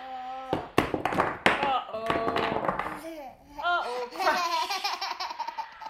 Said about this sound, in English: Crash. Have all the blocks gone everywhere? Have you made a mess?